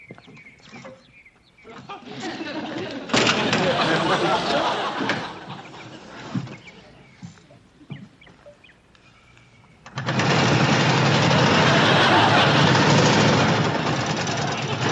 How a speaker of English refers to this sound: Well, you think you could get it started so I could hear the engine?